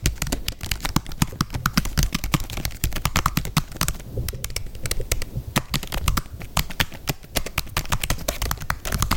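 Fast, steady typing on the keyboard of a 2015 MacBook laptop, a continuous stream of light key clicks and taps with brief pauses, no one speaking.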